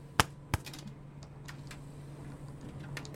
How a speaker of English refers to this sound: It sounds like you're slapping yourself in the face and it's making me uncomfortable.